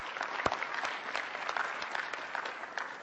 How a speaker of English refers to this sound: Give them a round of applause for those that are in the military.